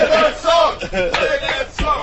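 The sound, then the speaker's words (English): A crowd of voices chants "Play the song" together in loud, rhythmic bursts, calling for a song on acoustic guitar, the layered shouts rising and falling in a repeating pattern. “Listen to the crowd. Play listen the song. The people are calling for it.”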